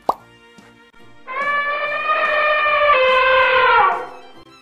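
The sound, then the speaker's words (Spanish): An elephant trumpets loudly in one long, brassy blast lasting nearly three seconds, with a slight pitch drop near the end, after a short click and a quiet pause. “El sonido puede tener un volumen fuerte, como el que hace un elefante.”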